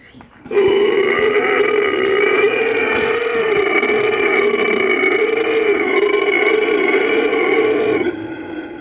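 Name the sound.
howler monkey call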